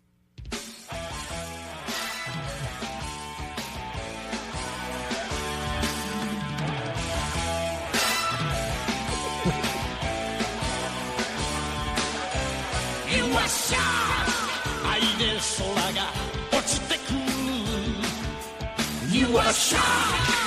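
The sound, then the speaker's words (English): A loud, dense rock song plays throughout, its raw vocal repeatedly screaming the lyric "you are shock", which sounds like "you a shark", over heavy distorted instruments and a driving beat, filling the whole clip at steady volume. “the way they sing it makes it sound like they're screaming "you a shark" over and over.”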